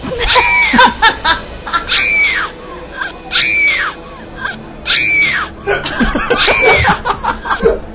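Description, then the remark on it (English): A girl screaming sound effect: a series of high, wavering shrieks that rise and fall, repeated about five times in quick succession, loud with a slight echo. “Oh, do the girl Let's screaming. Let's go with that one, yeah. Do girl screaming.”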